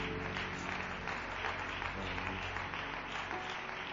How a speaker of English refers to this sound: Let's do that as unto the Lord, shall we? Can we give the Lord a clap offering of praise here today?